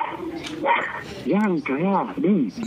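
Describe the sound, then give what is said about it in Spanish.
A small female dog barks in a quick run of three sharp, high yaps, following a moment of someone speaking. “Voy a atender a la gente de la puerta, porque si no la perra no me deja ni hablar.”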